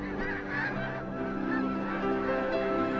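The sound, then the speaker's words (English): A flock of migrating geese honking steadily, many overlapping nasal calls blending into a continuous, busy chorus at moderate volume, with no voices present. “These features of migratory birds are clear proof that it was Allah who created them.”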